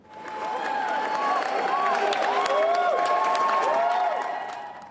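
A crowd of people cheering and applauding steadily, with dense clapping and excited shouts and whoops rising over it, fairly close and sustained throughout.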